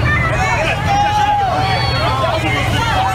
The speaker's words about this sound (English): And you can see that they begin to shout at the Trump supporters. He gets out of his truck. They're screaming at the Trump supporter in the truck. And now they're beating on his car. They're now beating on his truck and screaming at him.